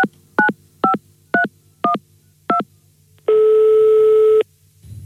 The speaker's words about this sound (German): Deswegen versuche ich mal, mich selbst mit meinem Handy im Studio anzurufen.